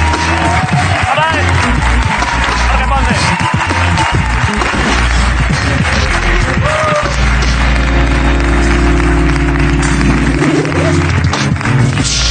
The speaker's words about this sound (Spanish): Bueno, pues un aplauso, ¿para qué va a ser? ¡Para Jorge Ponce!